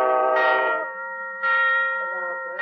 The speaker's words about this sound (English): By Jove, there's the alarm now.